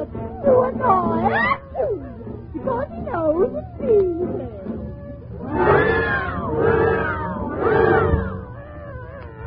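A cat meows over and over, loud: a quick run of short, rising mews, then three long, drawn-out yowls that swell and fade in turn.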